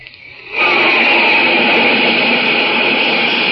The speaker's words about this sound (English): That's a flight of jet planes flashing across the sky, flying faster than the speed of sound itself. Those fleet, deadly jets are the masters of the air, spreading their wings in battle high above the earth.